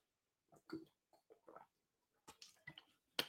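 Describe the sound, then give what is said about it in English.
Someone takes quiet sips of water: a few soft slurps and swallowing gulps with little wet mouth clicks, then a sharper knock at the end, as if a cup is set down. “Taking a sip of water, excuse me.”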